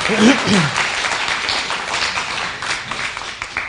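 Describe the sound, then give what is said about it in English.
A crowd claps steadily, a dense burst of applause with a brief voice rising over it near the start before the clapping carries on evenly. “Should we give them a clap?”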